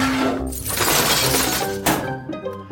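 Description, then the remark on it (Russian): A glass jam jar shatters in a loud, bright crash, followed by a second burst of breaking glass and scattering shards tinkling away. No voices. “До свидания, варенье. Теперь еще осколки убирать.”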